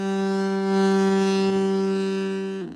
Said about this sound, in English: When they install it in their car, they think it sounds like people are waving and just trying to. But in actuality, it sounds like you're laying on a horn.